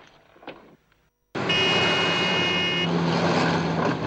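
After a second of near quiet, loud road traffic cuts in abruptly, a steady roar of engines with a high whine, continuing without a break to the end, as a woman carrying shopping looks for a gap to cross the road.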